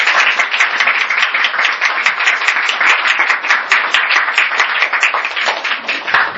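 An audience at Karis Chapel applauds in thanks to God and the chapel's founding pastor after his message, a dense, even wash of many hands clapping at once for several seconds with no voices breaking through.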